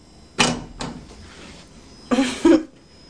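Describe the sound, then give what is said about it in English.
A door is shut: a couple of short, sharp knocks, then a louder double clunk as it closes, with quiet in between and no talking. “I shut the door.”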